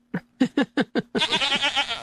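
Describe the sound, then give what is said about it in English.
A goat bleats, five short, sharp calls in quick succession followed by one long, wavering bleat with a trembling quality, loud and clear with no voices around. “Authorities later confirmed the goats didn't have valid tickets, but on the bright side, passengers said it was the most polite and least smelly morning rush hour they ever had.”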